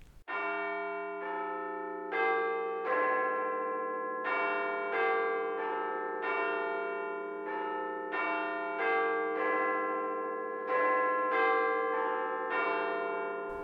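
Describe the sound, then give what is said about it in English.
The chimes of Big Ben, played on a kitchen radio, sound a steady melodic sequence of about a dozen strikes. Each rich, resonant note rings on into the next, loud and sustained, with no voices present. “The chimes of Big Ben filled the kitchen.”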